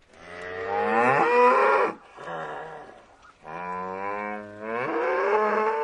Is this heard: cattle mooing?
yes